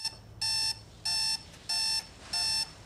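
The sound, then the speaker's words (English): A digital alarm clock in a flat beeps insistently in the morning, four loud electronic bursts repeating at a steady rhythm with brief gaps between, alone over a faint background hum. “Disturbed, she looks at her digital alarm clock.”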